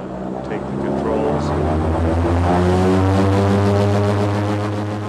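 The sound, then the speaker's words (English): A propeller airplane's engine drones loudly and steadily as it flies off from a base camp on a two-hour, 300-mile flight toward the edge of West Antarctica, a thick humming roar that swells slightly and holds for several seconds. “They fly off from the base camp 300 miles toward the edge of West Antarctica.”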